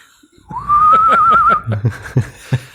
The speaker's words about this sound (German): Pfeif mal irgendwie Lied oder so.